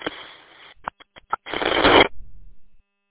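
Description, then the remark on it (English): Four short, evenly spaced beeps cut through a crackly radio transmission, sandwiched between bursts of band-limited static hiss. No one speaks. “I don't know what it is, you have that, like, beep, beep, beep, beep. Are you scanning?”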